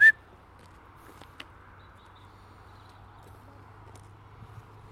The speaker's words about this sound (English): I've got Molly to take notice of me with one whistle now. When she can hear me.